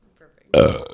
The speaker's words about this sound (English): So then I went to the mic and properly burped into it. You overdubbed my burp with your burp.